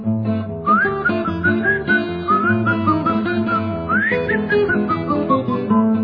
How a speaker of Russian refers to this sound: А мой трехпалый в бога душу свист запомнят дворники моей эпохи.